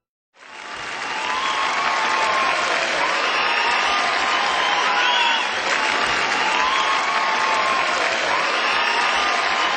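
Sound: audience applause and cheering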